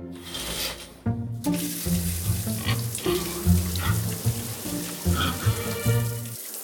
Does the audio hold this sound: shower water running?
yes